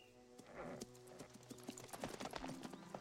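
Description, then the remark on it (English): A man rides over on a horse, its hooves clip-clopping in a steady, uneven rhythm of sharp knocks, moderately loud, with a low hum running underneath throughout. “A man rides over on a horse.”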